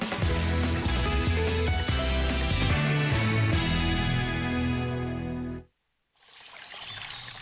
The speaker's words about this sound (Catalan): Així sona una bona hidratació. Així sona l'aigua del Parc Natural del Montseny.